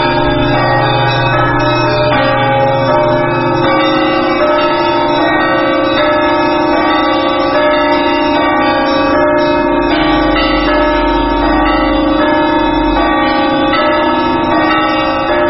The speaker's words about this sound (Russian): На Пасху – это основной трезвон, конечно. Трезвон – это когда звонарь звонит во все колокола, все, которые в наличии имеются колокола, в этот момент задействованы. В трезвоне все колокола, в отличие от, скажем, перебора.